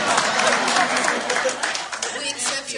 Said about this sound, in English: The room claps. Yeah.